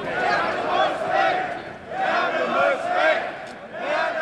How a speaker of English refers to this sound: After we part ways, a shout goes up through the crowd.